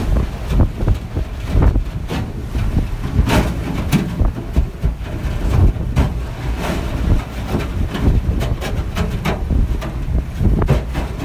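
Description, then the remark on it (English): An icebreaker ship grinds slowly through sea ice at 1-2 knots, ramming into it, with a heavy, continuous low rumble and loud engine, punctuated by frequent sharp, loud cracks and crunches of ice below the hull, with no voices. “You know, you hear the sound of the ice sort of crunching very noisily below you.”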